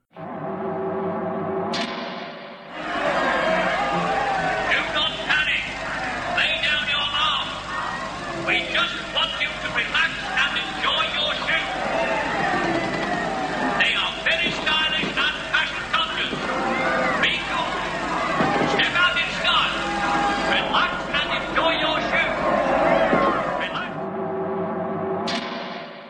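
A large crowd outside a front door, kept behind crash barriers, murmurs and chatters continuously and loudly, with scattered shouts and clatters over a low steady rumble of an engine running; the noise swells in abruptly and cuts off near the end.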